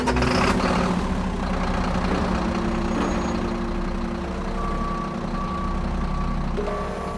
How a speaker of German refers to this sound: Jetzt wird der Plazentamüll aus dem Krankenhaus auf einen LKW geladen. Die Ladefläche ist 10,50 Meter lang und 2,46 Meter breit.